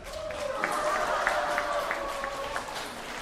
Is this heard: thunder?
no